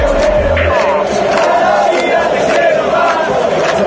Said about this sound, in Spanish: Nos emocionamos con cada ovación.